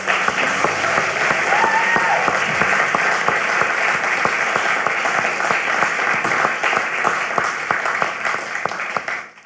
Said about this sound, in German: Ja, ihr Lieben, lasst uns doch mal Jesus einen ganz fetten Applaus geben.